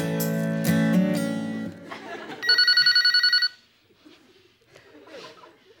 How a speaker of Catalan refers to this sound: vols fer el favor d'agafar el telèfon? No! Però, tio, que aquesta gent de l'Sputnik ja ha trucat 6 cops, que no sé què dir-los.